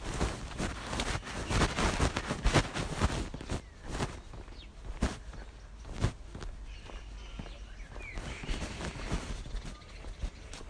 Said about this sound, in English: Just walking down my path. It's very overgrown, so it's a bit wet because it's been raining. It's kind of dripping on myself, but never mind.